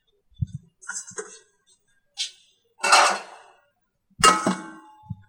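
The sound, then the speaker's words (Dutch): Pots clink and clatter in a series of sharp metallic knocks, a few quick small taps followed by two louder, ringing clangs, as potatoes are put on to boil, with no talking. “We gaan nu de ingrediënten snijden, maar ik zet de aardappelen eerst even op.”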